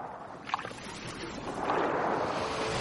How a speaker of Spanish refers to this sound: Movimiento de las olas.